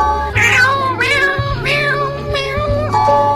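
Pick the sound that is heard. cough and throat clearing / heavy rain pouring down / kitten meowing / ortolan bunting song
kitten meowing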